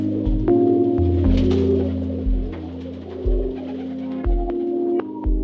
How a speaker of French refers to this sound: il y en avait tout autour de notre terrasse. Ça faisait peur. C'était des pigeons que je trouvais fort agressifs et fort gras, ma foi.